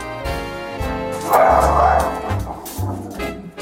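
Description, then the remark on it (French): A dog named Pastiche barks and yips repeatedly, with several short, loud bursts in an uneven rhythm over about four seconds and no voices. “Comment s'appelle votre chien ?”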